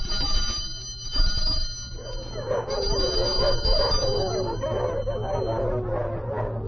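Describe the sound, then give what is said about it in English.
A bell rings continuously with a bright, shrill tone for several seconds before cutting off near the end, while a low rumble and a busy wavering murmur sit underneath it; the bell is rung to call dogs to mealtime in a conditioning experiment. “After being exposed to the ringing bell to indicate mealtime, soon the dogs began to drool simply upon hearing the bell.”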